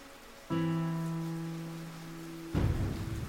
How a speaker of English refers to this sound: That night I couldn't sleep. As I lay in the dark, listening to the rain pound against the roof